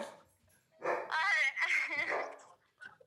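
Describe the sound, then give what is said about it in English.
A dog lets out an agitated, drawn-out burst of barking and whining, loud for about two seconds, followed by a short quieter yelp. “You're pissing the dog off.”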